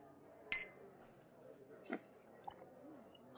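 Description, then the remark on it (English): Drinking glasses clink together in a toast as drinks arrive, two bright ringing taps about a second and a half apart, over a low murmur of room noise and quiet clatter. “Oh, and here come the drinks. Thank you. All right. Cheers.”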